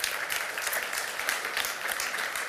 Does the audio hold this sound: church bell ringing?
no